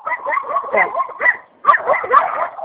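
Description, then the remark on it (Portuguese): Several dogs bark in a rapid, overlapping flurry outdoors on a street, heard while walking, loud, with a brief lull in the middle before the barking surges again. “É que eu tô na rua andando daí os cachorrados já.”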